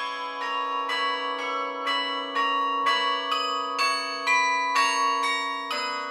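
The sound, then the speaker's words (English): A carillon plays a slow melody, its bells struck about twice a second, each note ringing on and overlapping the next. Clear and fairly loud, with no voices. “that amounts to almost $3.7, $4 million for a carillon”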